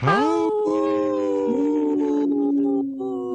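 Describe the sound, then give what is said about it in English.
A person imitates a wolf howl, one long sustained voiced cry that rises sharply at the start, then holds a steady pitch with small wavers for several seconds, loud, with no other sounds. “We brought … back on to howl.”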